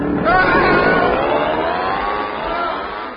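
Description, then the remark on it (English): An outboard motor fitted onto a piano roars loudly and continuously, its droning pitch rising and wavering, with a faint hubbub of background noise underneath. “Now, just fit this outboard motor onto the piano and...”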